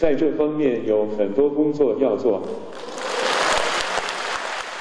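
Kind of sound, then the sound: crowd, audience cheering and applause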